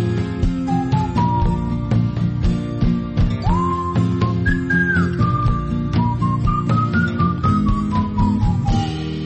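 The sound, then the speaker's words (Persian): An American indie rock musician whistles a clear, melodic tune, using the whistle like an instrument, gliding over a full band accompaniment, with sustained notes bending up and down across the song at a steady, prominent level. “موزیسیانی که برخلاف اغلب هنرمندای ایندی راک به جای گیتار ویولون به دست میگیره و صدای سوتش مثل ساز استفاده میکنه.”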